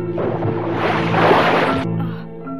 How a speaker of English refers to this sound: Its occupants unconscious, the spaceship becomes a ball of fire as it enters a dense atmosphere and splashes down into a tranquil blue sea.